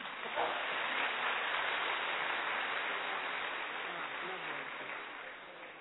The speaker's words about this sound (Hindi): सुनते ही सुनते रहो तो जरा तंग भी बोर भी हो जाता है, थोड़ी चेंज आ गया, थोड़ा खड़े हो गए, तालियां बजा ली, अच्छा लगा ना आप सबको भी। अभी और भी कोई आए तो तालियां एक बार फिर बज जाए तो बहुत ही अच्छा लगेगा।